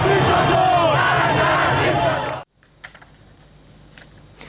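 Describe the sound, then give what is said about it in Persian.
A loud, dense crowd of street protesters in the Nazi-Abad neighbourhood of south Tehran, Iran, on a Saturday, roars and chants together for a couple of seconds, then cuts off abruptly to a quieter background with scattered faint clicks and murmurs. “علی‌رغم حضور ماموران امنیتی در نازی‌آباد، این جمعیت مردمان معترض در این منطقه از تهران است.”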